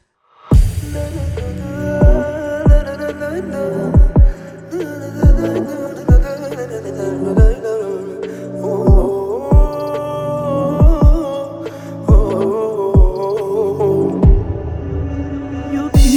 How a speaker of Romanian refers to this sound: Mi-a ajuns la ureche că vă place această melodie.